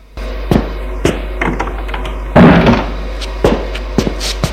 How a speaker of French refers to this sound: Il le fait entrer et ferme la porte.